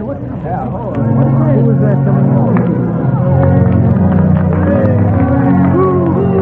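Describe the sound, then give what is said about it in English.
After a brief quieter start, a big crowd at the field breaks into loud, sustained cheering and shouting, many voices overlapping in a dense roar that holds steady to the end. “Start the cheering.”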